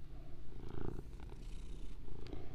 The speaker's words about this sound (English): My cat's here again, sorry. He's like a screecher, dude. Good job. Right on cue. He's literally, he talks like that. I don't know what's wrong with him. Please diagnose my cat.